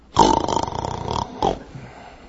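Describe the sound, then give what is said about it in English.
Someone imitates Peter snoring: a long, loud rasping snort lasting about a second, then a brief breathy puff, with no words spoken. “Peter is probably snoring.”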